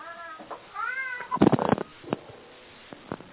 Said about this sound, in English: Oh, cat, yes.